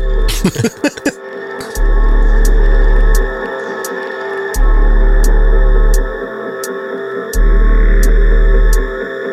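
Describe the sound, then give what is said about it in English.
Electronic music with heavy, sustained FM bass notes pulsing in long blocks under a steady tick of sharp drum hits and a hazy, reverberant synth wash. It is loud, with no voices. “FM bass, reverb, drums.”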